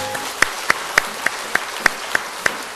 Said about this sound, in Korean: 하나님께 영광의 박수를 올리겠습니다.